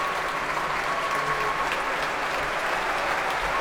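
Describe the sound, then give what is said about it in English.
Sustained applause from a large concert audience and orchestra musicians, with conductor Donald Runnicles on stage, fills the space, a dense, steady wash of clapping hands with no break, fairly loud and continuous throughout. “Still clapping, musicians and audience.”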